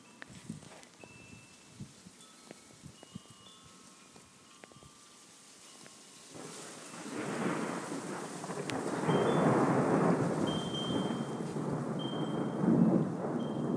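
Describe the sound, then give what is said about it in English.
Light rain patters softly with scattered drips, then a long, deep rumble of thunder swells in around halfway and rolls on steadily, growing fuller and louder toward the end. “I hope we can get one more rumble of thunder, would be nice.”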